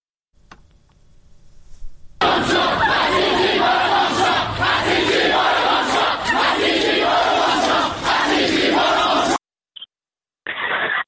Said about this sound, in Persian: دانشجویان دانشگاه شهید بهشتی در همین دانشگاه با در دست داشتن پلاکارد شعار مرگ بر دیکتاتور، توپ تاک پیش بشه آخوند باید گم بشه سر دادن. بشنویم صداشون رو.